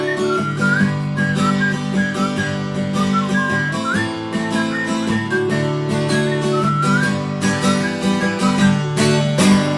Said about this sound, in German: Alter, was für eine Pfeiferei, ey. Ich bin gerade so, also ich bin echt, wie ihr den Pfeifeinsatz auch da drin hattet.